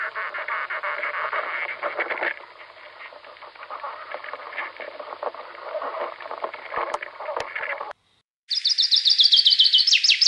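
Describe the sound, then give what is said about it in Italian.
Two duetting birds sing in close alternation, the male singing the first phrase and the female the second. Their rapid, busy phrases overlap in a dense, continuous chatter, then a brief pause before a bright, high trilling burst of song closes the sequence. “Ci sono degli uccelli duettanti. Si riconoscono i due canti.”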